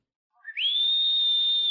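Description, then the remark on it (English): A single shrill whistle slides quickly upward, then holds one steady, high pitch, loud and unbroken for over a second with no voices around it. “The Hawk's whistle signals another exciting episode”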